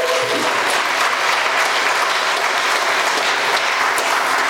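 A dense round of applause from a crowd, many hands clapping steadily and loudly throughout without any pause, no voices standing out above it.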